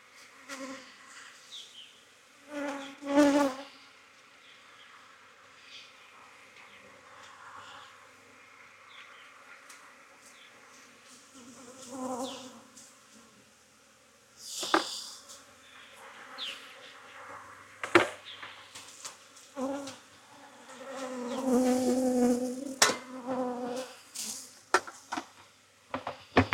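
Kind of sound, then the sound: insect, honeybees buzzing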